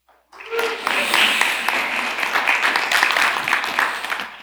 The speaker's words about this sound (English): It's fun being, it's kind of like a guest, but not really, because people cheer for you before you preach.